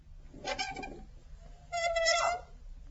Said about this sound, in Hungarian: Vigyázz, hogy ne csikorogjon a retesz.